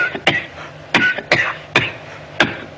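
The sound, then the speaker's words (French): A person coughs and clears their throat repeatedly, about half a dozen harsh, abrupt bursts in quick irregular succession, fairly loud, with no talking. “Allô, Tata ? Pourquoi tu tousses ?”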